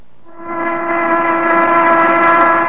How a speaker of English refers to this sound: Or take that factory whistle which blew noon a while back.